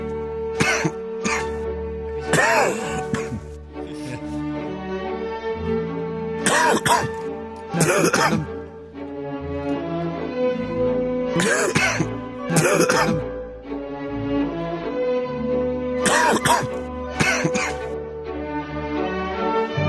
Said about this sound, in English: I have a sudden urge to cough.